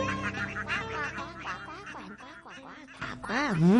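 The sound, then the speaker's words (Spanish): A sung voice imitates a duck, delivering a few nasal quacks in rhythm over light musical accompaniment in a Spanish-language song about a little duck, fairly loud, with the last quack the strongest. “Y la patita, pues qué va a hacer, cuando le pidan contestará: coman mosquitos, cuara, cuac, cuac.”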